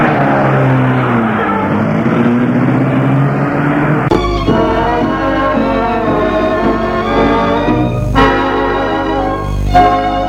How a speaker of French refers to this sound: Et la voiture démarre.